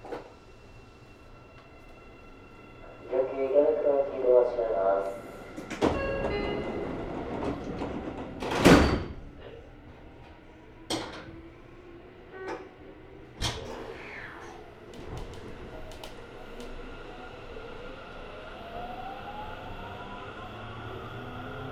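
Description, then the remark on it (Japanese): A Seibun line express commuter train bound for Ikebukuro, next stop Nishi-Tokorozawa, in Japan: its door chime rings, followed by the heavy thud of doors sliding shut; the train then pulls away as a rising motor whine builds over rumbling wheels and clanks. “この電車は準急池袋行きです。”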